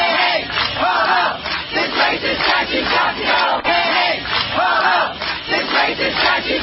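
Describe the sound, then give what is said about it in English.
A crowd of around 250 protesters at the Silent Sam Confederate statue, University of North Carolina, Chapel Hill, cheers and shouts as some produce a rope to pull it down, a dense roar of many voices rising in loud waves, with swelling chant-like surges over steady clamor. “Then the crowd started cheering as some people produced a rope and began to try to pull it down, which they did end up doing.”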